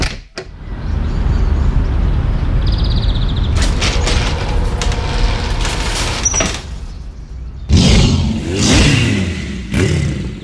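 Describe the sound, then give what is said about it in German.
A motorcycle engine revs loudly, roaring steadily for several seconds, surging in pitch and intensity, then bursting into harder revs near the end. No one speaks. “dieses Drehmoment, wo ist denn das genau in deinem Motorrad?”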